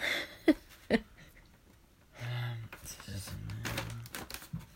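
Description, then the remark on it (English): Two sharp snips of scissors cutting paper, followed by a stretch of crinkly, scratchy cutting and rustling, with soft voice sounds murmuring in the background. “Let's let you hear the sound effects of the paper being cut.”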